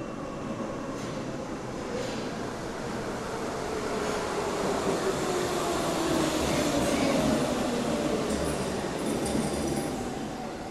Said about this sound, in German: Unter der Erde. Ich löse eine Fahrkarte. Der Zug kommt an.